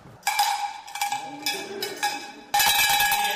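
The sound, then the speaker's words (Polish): An original cowbell brought from Norway is rung, clanging in several bright, ringing bursts with strong overtones, the strokes blending into a sustained jangle that swells loudest at the end. “Począwszy od Lillehammer, jest to oryginalny dzwonek z Norwegii przywieziony.”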